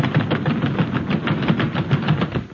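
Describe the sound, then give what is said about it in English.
A loud, steady rumble of many pounding feet as the audience rushes out of an NBC studio, thudding in a fast, uneven rhythm with no voices, fading slightly at the very end. “Costello, what was that? What do you think it was? The audience!”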